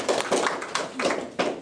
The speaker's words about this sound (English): There's not better news than that. Let's clap. That's the best news you ever heard.